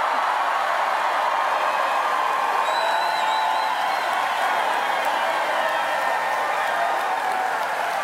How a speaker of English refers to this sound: Now, that is what you call a crowd response. I don't know, but oh, yes. It's exciting just to listen to it, how just incredibly hopeful and engaged people are.